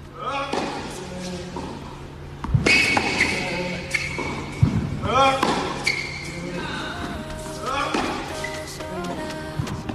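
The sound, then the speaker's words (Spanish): Tennis balls being struck by Carlos Alcaraz as he returns to training after his recovery, a series of sharp, punchy pops every second or two at an uneven pace, with voices and other court noise underneath. “Sería de loco, pero habrá gente que habrá reconocido que este es Carlos Alcaraz, que ha vuelto a entrenar ya pensando, después de su recuperación, poco a poco, a ver si puede volver a competir.”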